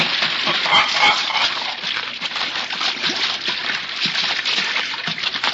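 A goose is let down into water and splashes in, with steady sloshing and spattering that carries on fairly loud for several seconds. No one speaks.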